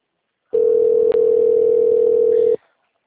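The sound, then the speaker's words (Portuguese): A phone call's ringing tone: one steady, mid-low electronic beep holding for about two seconds, broken by a tiny click partway through, then silence. No voices. “pelo microfone tá chamando.”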